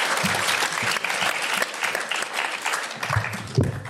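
An audience claps steadily for a few seconds, a dense, crackling wash of many hands with a few louder individual claps and faint voices mixed in.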